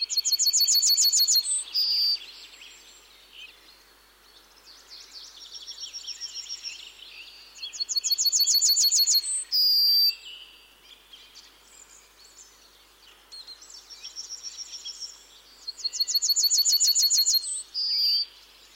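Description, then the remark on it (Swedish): A yellowhammer sings three times, each phrase a quick series of high, dry repeated notes ending in a drawn-out final note, with softer background bird calls between. “Men tar vi gulsparven först då?”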